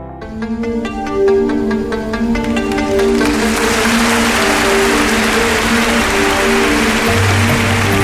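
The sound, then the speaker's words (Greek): Steady, dense clapping swells in after a few seconds and continues as a loud wash of applause over a sustained, tonal musical backing, with no voices. “Εντάξει, μην με χειροκροτάζεις, αλλά εντάξει, ντρέπομαι.”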